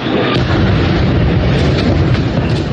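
Loud, close artillery shelling, with explosions merging into a dense, continuous roaring rumble that never lets up. No voices can be heard.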